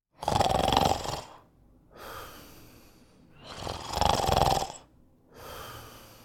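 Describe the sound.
A voice imitates the big bad wolf snoring in bed in a telling of Little Red Riding Hood: two loud, rasping inhaled snores, each followed by a softer breathy exhale, in a slow, regular rhythm with no talking.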